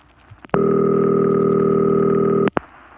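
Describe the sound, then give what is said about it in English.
A Bell System standard telephone ring tone called City Ring: a steady electronic ring sounding loud for about two seconds, a continuous buzzing harmonic tone with clicks at its start and end, then silence. “That's called City Ring.”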